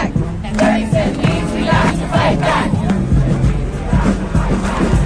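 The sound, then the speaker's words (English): A large crowd at a protest rally at the north end of Union Square Park fills the air with dense, continuous babble and overlapping shouts, a steady loud roar of many voices with occasional rising yells, chanting and calling out. “We're at the north end of Union Square Park, and it's filled and it's early.”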